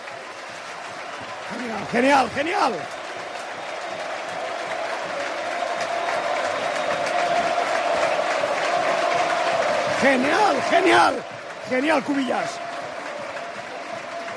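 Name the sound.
stadium crowd ovation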